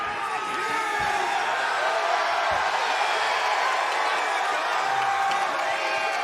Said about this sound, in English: What an iconic moment in the short history of AEW Dynamite. Sting descending from the rafters. And listen to this crowd, it has come unglued. Unbelievable.